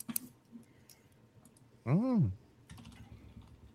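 Light keyboard typing with scattered clicky keystrokes in short bursts, briefly interrupted by someone humming a rising-and-falling "mm" before the tapping resumes.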